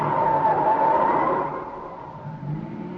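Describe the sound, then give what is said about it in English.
A car turns right around a corner on a dark street after midnight, its tires letting out a sustained squeal over the engine noise before the sound eases into a lower, steady rumble. “Turn right at the next corner. That car's been tailing us for the last 5 minutes.”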